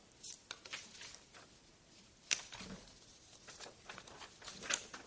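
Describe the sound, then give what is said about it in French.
Soft rustling and crinkling of paper sheets being shuffled, with a few sharper flicks standing out from a steady, quiet shuffle. No one speaks. “On va se mélanger les feuilles.”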